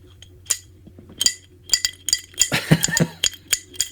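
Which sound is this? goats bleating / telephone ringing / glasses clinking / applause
glasses clinking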